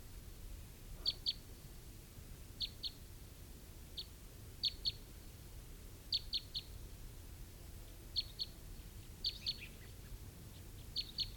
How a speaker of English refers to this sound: I think I hear some crossbills.